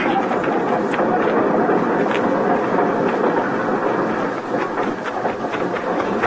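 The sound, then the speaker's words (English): A train departing a station rumbles and hisses steadily, its loud, continuous mechanical roar broken by faint rhythmic clanks, with no clear voices over it. “Get on the train, Flora.”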